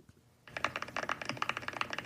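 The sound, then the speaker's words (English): Rapid typing on a computer keyboard, a dense run of crisp, clacky keystrokes starting after a brief quiet moment and continuing steadily, clear with no one talking. “You got the keyboards loaded up? Can you hear it? Yes, please. So, this is how it sounds.”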